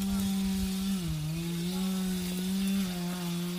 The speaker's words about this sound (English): Is it chainsaws? Is it handsaws? In some areas where it's sort of, it's not that steep, they use chainsaws.